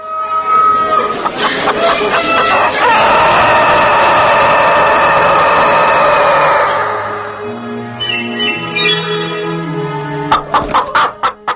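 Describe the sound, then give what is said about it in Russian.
A rooster crows with a long, drawn-out call, loud, followed by hens clucking in short, uneven bursts. No one speaks. “«Петухи и курицы» в передаче Тамары Леденковой”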